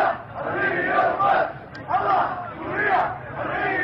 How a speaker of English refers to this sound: Soon, in cities and towns around the country, thousands of Syrians were taking to the streets, chanting in solidarity with the protesters who had died and the detainees who'd come to be known as the Children of Deraa.